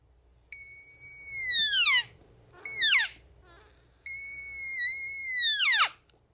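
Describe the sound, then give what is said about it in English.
A red deer hind call: three high, nasal, whistle-like mews, a long one, a short one, then another long one. Each holds steady before sliding down in pitch at the end. “Okay, rip out a hind call.”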